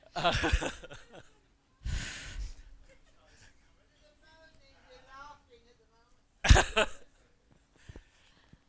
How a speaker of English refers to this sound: I'll try not to cough too much.